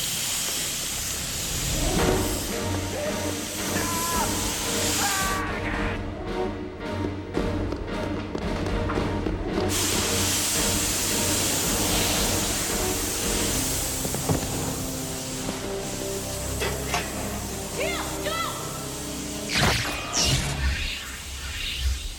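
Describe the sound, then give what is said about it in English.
Steady, loud hissing of steam escaping from pipes broken by Jack's body, a dense rushing noise that fills the whole stretch, with low rumbling and scattered thuds mixed in and no voices. “Now, do you think Jack's body breaking those steam pipes was the actual fix?”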